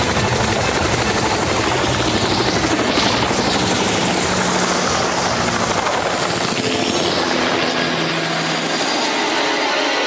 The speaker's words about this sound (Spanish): Y de inmediato, los militares hacen sus características señas y cuidan a la doctora hasta llegar nuevamente al helicóptero, que despega y se pierde en el horizonte.